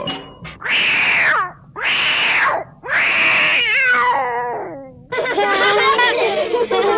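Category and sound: animal, kitten meowing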